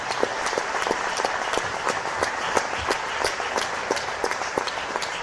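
An audience at a Cobla Maricel 5th-anniversary concert applauds steadily for the people who have been with the cobla since its beginning: a dense wash of many hands clapping with a few sharper claps standing out, sustained at an even level throughout.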